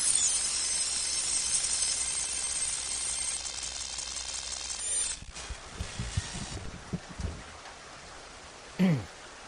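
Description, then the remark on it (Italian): Heavy rain pours down in a dense, steady hiss, then eases to a softer patter with a few low thuds and a brief sharp sweep near the end. “Mamma mia, se piove.”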